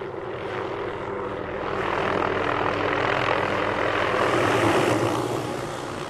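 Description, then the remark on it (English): A small blue and yellow helicopter, used to capture mule deer in the Piance Basin, buzzes steadily as it idles before takeoff, a continuous engine drone that swells a little after the first couple of seconds and holds, with no voices. “That buzz you hear in the background is a small blue and yellow helicopter that's about ready to take off.”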